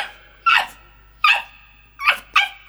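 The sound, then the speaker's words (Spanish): A poodle named Marita gives four sharp, high-pitched yelping barks at uneven intervals, fairly loud, with a pained, whimpering edge to each cry and no talking. “Y empieza como a ladrar con dolor.”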